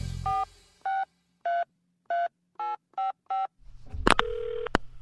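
signal or alarm, telephone number being dialed

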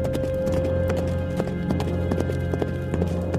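animal, horse hooves galloping away

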